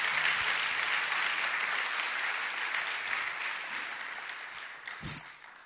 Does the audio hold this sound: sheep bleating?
no